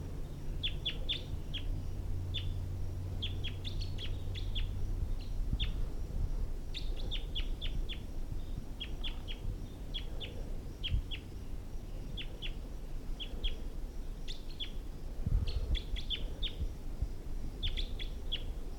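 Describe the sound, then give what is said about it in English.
A wild male bird sings high up in the trees, repeating short bursts of high, bright chirps in quick clusters over a steady low rumble of background noise, with no talking. “So recording, that wild male is high up in the trees now.”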